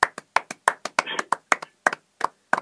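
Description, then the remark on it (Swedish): Two people clap their hands in a quick, uneven rhythm, sharp distinct claps about a dozen over a few seconds, with a brief murmur of voice in the middle. “Ja, vi tänker göra en applåd nu för det här, faktiskt. Vi är bara två personer, men vi provar.”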